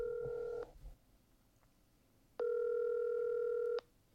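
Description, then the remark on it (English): A telephone ringback tone sounds twice as a phone call is placed to someone's mother: a short steady electronic tone, a pause, then a longer tone of about a second and a half, clear and fairly loud with no talking. “Do we know anybody smart that we could call?”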